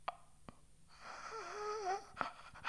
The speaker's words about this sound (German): Luft holen ohne Worte, Luft schnappen wie ein Fisch auf dem Sand. Leben wollen, überleben wollen, die Durststrecke bis zum ersten Laut.